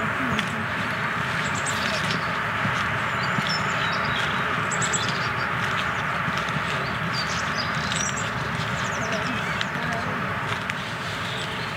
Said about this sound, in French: Puis on voit les oiseaux un peu plus facilement, même si là ils commencent à chanter.